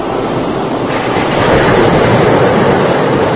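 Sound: ocean waves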